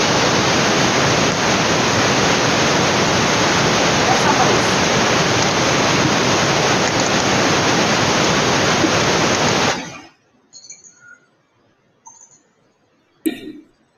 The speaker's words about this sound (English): I'm hoping that wasn't the sound of water I just heard.